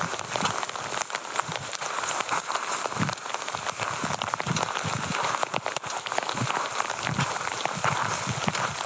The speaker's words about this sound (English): This is more rain than we have had up here in many a January.